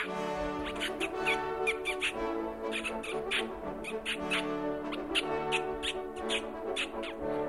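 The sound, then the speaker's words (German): A person on a raised hunting stand imitates mouse squeaks to lure a fox, with repeated short, high-pitched chirping bursts in an uneven rhythm, set over a steady droning tonal background that runs throughout. “Man kann den Fuchs anmäuseln, ja, indem man, wenn man auf dem Hochsitz ist, eine Maus nachmacht.”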